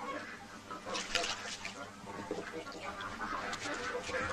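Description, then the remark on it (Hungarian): A flock of turkeys gobbles and chatters continuously, their overlapping calls forming a busy, steady din with brief louder bursts throughout. “Eredj a pulykák után!”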